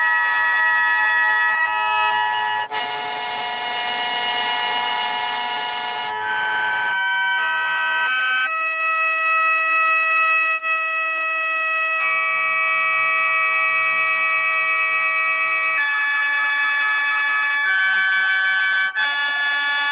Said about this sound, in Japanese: 笙は吸っても吐いても音が出ます。つまり人間の息遣いがすべて楽の音となる稀有な楽器なのです。極人の息遣いに自然の息吹を聞いてください。